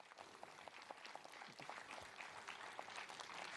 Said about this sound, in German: Und jetzt gibt es einen Beifall.